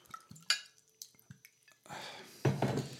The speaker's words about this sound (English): I'm just going to pour some water quick.